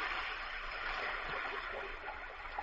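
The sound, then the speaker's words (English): A steady, continuous fizzing hiss of chemical powder dissolving in hydrofluoride and aqua regia, fairly quiet, holding an even level throughout with a faint crackle and no voices. “See how it hisses and sparks.”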